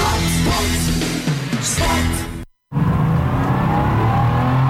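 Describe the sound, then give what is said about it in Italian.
A loud car engine revs, its rumbling harmonics shifting in pitch, then cuts out briefly before roaring back and continuing steadily. “Bella la tua auto.”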